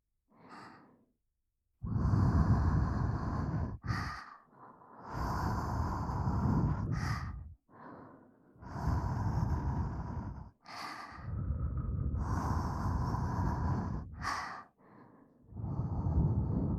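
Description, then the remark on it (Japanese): Long, soft, warm breaths blown into the ear, not too hard, several slow exhales in a row with brief pauses between them, airy and intimate with no talking. “こうして、お耳にふーってしている間にわかるから。”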